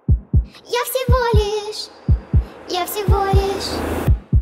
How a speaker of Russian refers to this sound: Нет, постой, кажется, ты уже дышишь, и твой пульс становится четче.